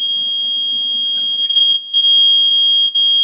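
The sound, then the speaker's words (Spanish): A panic button alarm signal: a loud, steady, high-pitched electronic tone that sounds continuously for over three seconds, with one short break partway through and no voices. “Perfecto, ¿podría mandarme su botón de pánico, por favor?”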